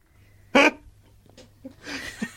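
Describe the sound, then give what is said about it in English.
A puppy named Billie Jean tears at cardboard: one sharp, loud rip, then a quieter scuffle and a longer, scratchy shredding burst. No one speaks. “That is Billie Jean attacking some cardboard.”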